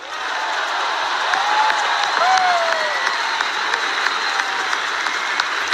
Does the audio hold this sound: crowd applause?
yes